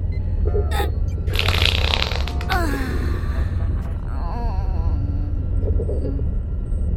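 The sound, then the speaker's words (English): A long, rumbling wet fart rolls on for several seconds, loud, with sputtering bursts and squeaky, groan-like tones over a deep, steady low rumble. “I wanted to keep blasting farts into you anyway.”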